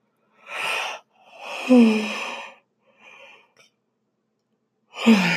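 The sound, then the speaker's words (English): A drawn-out yawn: a breathy intake, then a long airy exhale with a low, sliding voiced groan, followed by softer breaths and another breathy gasp at the end. No talking. “Here comes the yawn.”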